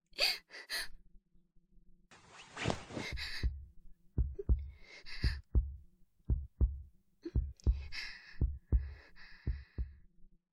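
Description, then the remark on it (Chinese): A steady heartbeat thumps in deep, muffled double beats, heard while being hugged by an upperclassman, with soft gasps and breathy sighs rising over it; no one speaks. “学长的怀抱好温暖啊，甚至还能听到学长扑通扑通的心跳呢。”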